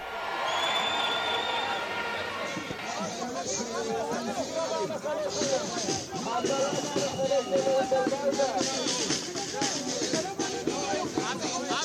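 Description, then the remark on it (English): A large crowd of more than 80,000 protesters in Tel Aviv, Israel, many under umbrellas in rainy weather, chants and shouts slogans such as "criminal government" and "the end of democracy", a dense wash of many voices with rhythmic swells and occasional whoops, sustained and fairly loud throughout. “Demonstrators, many covered by umbrellas, held signs and chanted slogans like criminal government or the end of democracy.”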